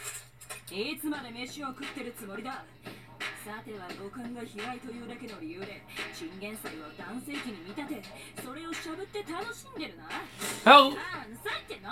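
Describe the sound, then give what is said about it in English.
Cutlery clinks against dishes in scattered light taps as someone eats a vegetable, beneath steady talking, with one sharper, louder clatter near the end. “How long are you planning on eating?”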